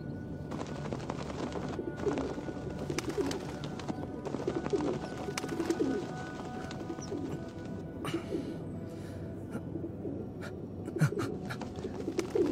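bird cooing

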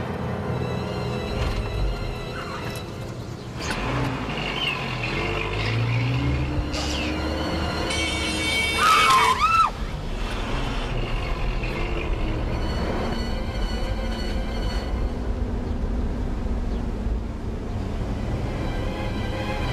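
car driving along

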